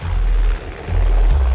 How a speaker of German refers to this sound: Der Helikopter ist wirklich sehr laut und fliegt sehr tief.